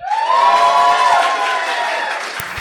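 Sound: audience applause and cheering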